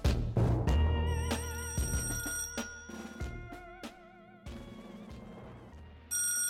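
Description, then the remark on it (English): A telephone rings loudly, bright warbling tones repeating in quick bursts over several seconds with no voices, the ring cutting off and starting again near the end. “A ringing telephone and a scramble to answer it used to be a common event in a household.”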